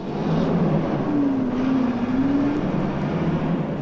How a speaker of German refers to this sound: Auf dem neuen Testgelände der Hanomag. Hier werden Fahrzeuge erprobt. Nutzfahrzeuge für alle Zweige der Wirtschaft. Hier werden sie unerbittlich den härtesten Anforderungen unterworfen. Hier werden sie unbestechlich auf Technik und Komfort geprüft.